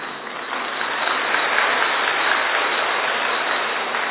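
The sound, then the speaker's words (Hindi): An audience of hospital staff applauds the idea of making every hospital a no-anger zone, a dense wash of many hands clapping at once with no gaps, holding an even, fairly loud level throughout and swelling slightly after the first moment. “ताली नहीं बजानी इसके लिए, ये करना पड़ेगा.”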